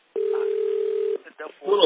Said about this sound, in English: there is some background noise coming from your end. Phone ringing noise is coming. Is it better now?